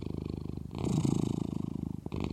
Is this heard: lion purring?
yes